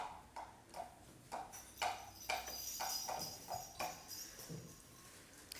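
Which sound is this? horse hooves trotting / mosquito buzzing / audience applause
horse hooves trotting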